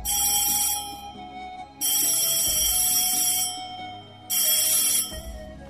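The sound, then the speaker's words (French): A telephone rings in three loud, bright bursts of metallic trilling, each lasting a second or two, separated by short pauses. No one speaks. “Le téléphone sonna.”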